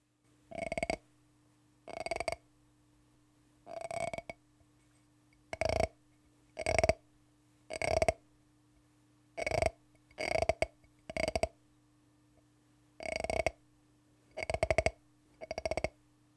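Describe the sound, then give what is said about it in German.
A wet thumb, pressed with some force, drags across the inside of a simple drinking glass in about thirteen short, irregularly spaced strokes, each a loud, harsh squeaky-groaning rub, with a faint steady hum underneath and no talking. “Mit dem nassen Daumen schrappt ihr an der Innenseite des Glases entlang.”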